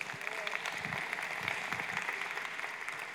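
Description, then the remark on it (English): A church audience claps together in a steady, sustained round of applause for a newly installed elder. Many hands produce a dense crackling patter that holds an even loudness throughout, with no voices on top. “We can clap for that as well.”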